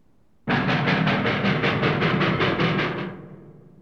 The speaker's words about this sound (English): Engine.